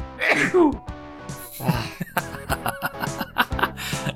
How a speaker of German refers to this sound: Dein Niesen klingt, als wärst du eine Achterbahn. Entschuldigung, ich bin allergisch gegen Bullshit.